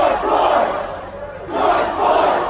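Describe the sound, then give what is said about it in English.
Hundreds of protesters chant in the streets of downtown Houston, some chanting the name of George Floyd, killed by police; voices rise in two loud, sustained swells with a brief dip between them, a dense roar of many people shouting together. “Hundreds hung back in the streets of downtown Houston, some chanting the name of the latest black person to be killed by police.”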